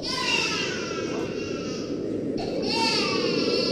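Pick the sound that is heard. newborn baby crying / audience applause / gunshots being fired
newborn baby crying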